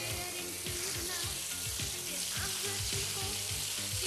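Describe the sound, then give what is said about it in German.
Shower water runs in an upstairs bathroom in a steady, even hiss that holds without a break, with a low, rhythmic pulsing pattern repeating underneath. No one speaks. “Mach kurz darauf, die Dusche hört.”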